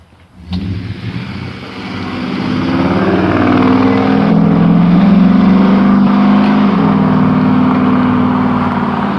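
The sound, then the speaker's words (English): A loud pickup truck engine rumbles in the morning, its low drone rising and swelling as the vehicle approaches and passes by, steady and noisy for several seconds with no voices. “What a morning be without a noisy pickup truck.”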